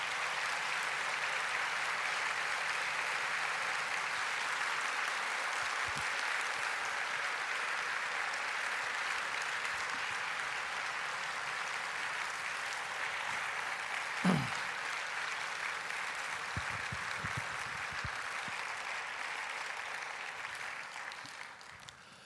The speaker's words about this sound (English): So, thank you for that applause.